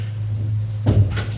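A door is opened with a short creak and clunk, fairly clear, over a steady low hum. The door is knocked on and opened off a corridor with wooden benches for waiting, leading into a tiny room.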